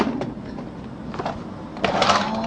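A drawer slides open with a rough, rattling scrape that swells louder near the end, over a steady low hum and a few faint knocks earlier on, as drawers are opened one after another.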